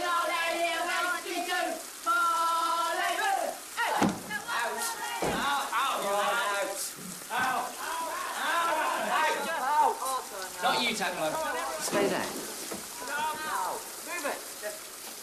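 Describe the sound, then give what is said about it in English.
Steady hiss of shower water running throughout as a group of schoolboy classmates shower, with several voices talking and calling out over the spray. “his classmates are in the showers.”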